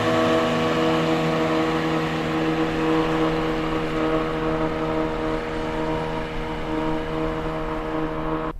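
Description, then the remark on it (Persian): Motorboats head across the sea toward a ship, a steady, loud engine droning continuously with a strong low hum and layered harmonic tones, holding nearly constant throughout before cutting off abruptly at the end. “قایقا میرن سمت کشتی.”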